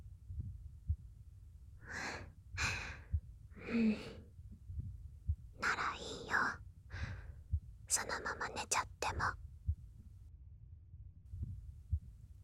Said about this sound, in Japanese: 私の心音を聞きながら眠れるなんて、君だけの特権だね。